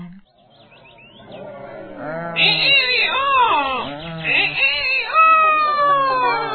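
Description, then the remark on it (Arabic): A rooster crows loudly at the top of its voice, boasting, a long, drawn-out call that swoops up and down in several strained, warbling bursts over about five seconds. “وفجأة يا أصدقائي جاء الديك المغرور وكان يصيح بأعلى صوته، يتباهى ويتفاخر بصوته كثيرا.”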